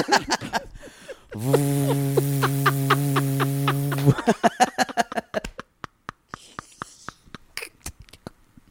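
air conditioner running hum

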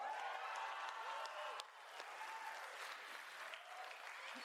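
audience applause and cheering

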